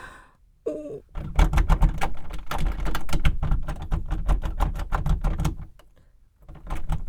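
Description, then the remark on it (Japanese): A stuck toilet door handle that will not open is jiggled hard and fast, a dense run of metallic clicks and clacks lasting several seconds, pausing briefly, then starting up again. “開かないよ。鍵なんてかからないだろうし、おかしいな。いやー、開かないよ。やだ、開いて。”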